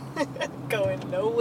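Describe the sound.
Steady low rumble of traffic heard from inside a car stuck in traffic on the Williamsburg Bridge, with engine drone, brief whooshes of passing vehicles and faint, muffled voices in the background.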